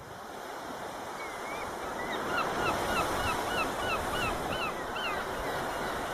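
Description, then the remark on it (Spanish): Steady ocean surf rolls and hisses throughout while a flock of seagulls calls repeatedly in short, bright cries over the top, growing slightly louder midway; no one speaks. “¿Qué te parece, Miguel, este paisaje maravilloso con el mar de fondo, las gaviotas?”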